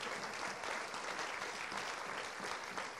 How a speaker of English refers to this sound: I want you guys to stand up. We're going to clap you. Go on, stand up.